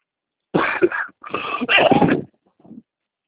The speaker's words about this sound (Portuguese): Eita, tá com tosse também? É, há tempo, né? Nossa, eu também tô. Uma tosse terrível.